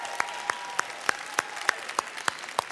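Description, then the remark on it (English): An audience applauds as a show of applause to vote on a question, with steady, evenly spaced claps, roughly three per second, over a soft wash of crowd noise. The clapping is moderately loud and no one speaks. “If you think it is okay to listen to Christmas music before Thanksgiving, even as early as Halloween, just by show of applause, let me hear who's in that camp.”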